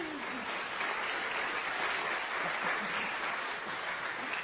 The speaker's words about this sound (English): This is a national festival for other feminist choruses, and it is like the biggest gathering of awesome music nerds that you'll ever see in your life. So we're really excited to go to Chicago this summer. Yeah, applause for that.